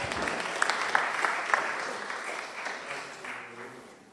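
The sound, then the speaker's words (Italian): A crowd in Florence applauds Gaetano Gennai, a Florentine satirist, steadily, dense clapping spread across a broad wash of sound that gradually fades out over a few seconds. “Facciamogli un applauso anche a Gaetano.”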